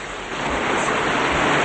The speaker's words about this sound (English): They go to a pond under a waterfall.